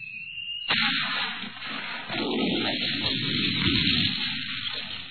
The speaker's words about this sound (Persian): با صدای سوت و کوتاه و ناگهانی گلوله توپ سر خم می کنه.